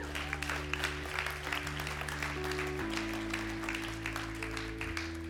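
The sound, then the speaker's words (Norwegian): Applause from an audience, a dense, steady patter of many hands clapping for several seconds, with sustained low musical tones held underneath that shift chord partway through. “Ja, det er lov å klappe i denne forsamlingen.”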